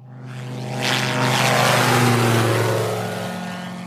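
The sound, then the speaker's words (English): A Bathawk single-engine open-cockpit microlight aircraft at Sitara Airfield drones steadily with a strong low propeller hum and bright harmonic buzz, swelling louder as it passes, then easing slightly; no voices. “That afternoon, we went to Sitara Airfield to meet a microlite aircraft called a Bathawk. It's an open cockpit machine with a single engine, and it has proved a vital tool in the war against poachers.”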